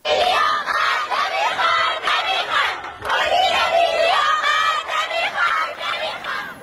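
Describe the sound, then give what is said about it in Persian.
A large crowd of young voices chants protest slogans loudly in unison: students of a girls' school in the Dilaman neighbourhood of Shahr-e Rey, gathered in the schoolyard against the school's management policies. The shouted phrases rise and fall in a steady rhythm with a brief break near the middle before the chanting resumes. “دانش آموزان این مدرسه دخترانه در محله دیلمان شهر ری در اعتراض به سیاست‌های مدیریتی این مدرسه در داخل حیات تجمع و شعار اعتراضی دادند”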